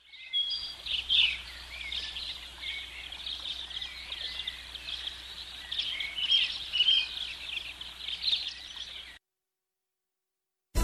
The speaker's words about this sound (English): The birds are flying in on me.